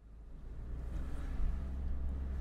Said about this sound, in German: Jetzt haben wir halt ein bisschen Verkehr hier, weil wir das Dorfzentrum gerade am Sanieren sind und eigentlich am Neugestalten.